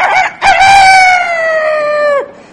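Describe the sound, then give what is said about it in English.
A man's voice imitates a rooster crowing: a short opening note, then one long, loud, drawn-out cock-a-doodle-doo call with a strained, reedy tone that falls off at the end. “Oh, try my coxcrow.”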